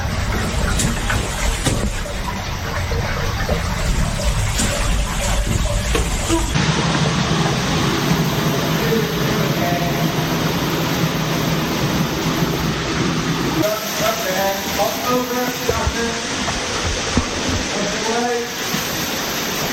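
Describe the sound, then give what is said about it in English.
Continuous loud splashing and sloshing of water as someone crawls through a wet cave passage underground. Indistinct voices come through faintly in the second half. “Just put the bag in the water and you can kind of lean on it.”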